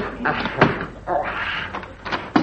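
A locked door is handled: a few sharp knocks and clicks from a latch or lock, then the rattle and thump of the door swinging open against a faint background hiss.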